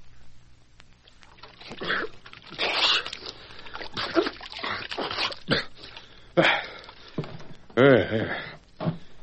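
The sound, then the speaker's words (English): Cold water splashes and sloshes in several uneven bursts as a man douses his head with it, his sputtering, gasping vocal noises breaking in between. “He doused a lot of cold water in his head while I stood waiting for him to get ready to talk.”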